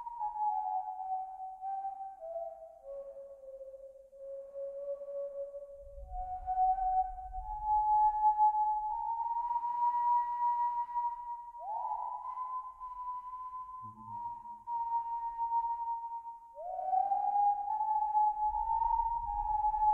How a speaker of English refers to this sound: All was quiet for long minutes. And then Chambers heard a most curious whistling coming from below in the town square.